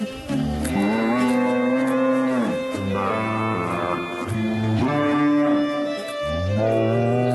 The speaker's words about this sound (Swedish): Så här lagom till jul så har korna i Brigottfabriken stämt upp i en känd julsång. Och frågan är om ni kan höra vilken det är.